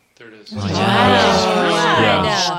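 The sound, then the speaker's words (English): A drawn-out scream-like vocal cry in a recording, lasting about two seconds, fairly loud and steady, with a wavering, shifting pitch and no other voices or sounds around it, heard about 45 seconds after someone asked, "If you know, can you scream as loud as you can for us?" “Did you hear that? That was a scream.”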